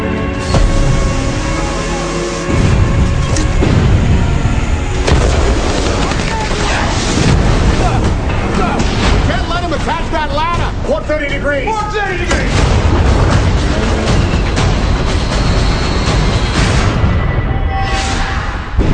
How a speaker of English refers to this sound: Shots fired! Take the hoses! This is not a drill. This is a real-world situation.